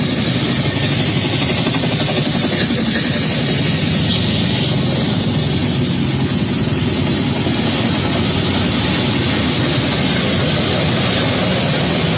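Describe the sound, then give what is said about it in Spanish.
Loud, steady roar of helicopters overhead at 1:58 in the morning during an attack on a military fort in Venezuela, a dense rumbling engine drone with a faint throbbing pulse that holds for the whole stretch, with no voices. “Se escuchan helicópteros, son las 1:58 de la mañana.”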